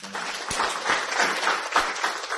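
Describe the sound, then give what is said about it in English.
An audience applauds steadily after a presentation, a dense wash of many hands clapping at once that stays fairly loud and even throughout, with a few sharper claps standing out. “Can we clap again?”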